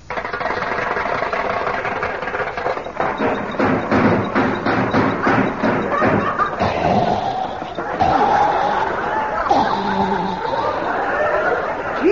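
A car engine cranks, coughing and sputtering in a fast, rhythmic chug that grows louder, then breaks into uneven coughs mixed with whiny, sliding tones toward the end.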